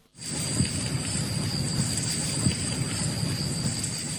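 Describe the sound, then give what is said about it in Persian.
Steady rain hisses across the whole recording, with low rumbling swells underneath like thunder rolling in and out; no one speaks. “روزمونو متبرک کنیم در لحظه هایی که پر شده آسمان از بشارت باران.”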